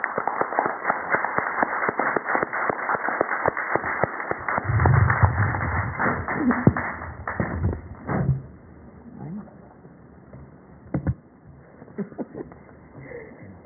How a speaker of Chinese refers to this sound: 各位，请以热烈掌声欢迎叶教授。